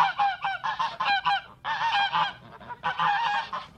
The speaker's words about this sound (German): Gibt es dort Gänse? Schnattern die auch so laut?